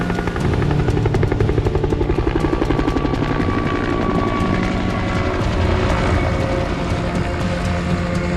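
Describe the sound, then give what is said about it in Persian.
A helicopter flies overhead, its rotor blades chopping in a fast, steady rhythm over a loud engine roar that stays strong throughout, with no voices. “با این وضع که نمیتونیم دو مایل راه تا فرودگاه بریم، مخصوصا با اون هلیکوپتر.”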